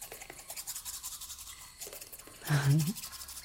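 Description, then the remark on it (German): Scrubbing with a black toothbrush while brushing teeth: quick, rhythmic bristle strokes rasp steadily back and forth, with a brief muffled hum-like vocal sound near the end. “Zähne putzen, Gespräche über den Tod.”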